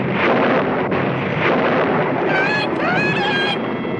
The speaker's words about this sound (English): Yes, isn't this some storm? I hope it doesn't wake the baby.